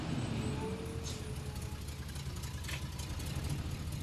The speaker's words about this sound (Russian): Перед домом останавливается арендованный грузовик.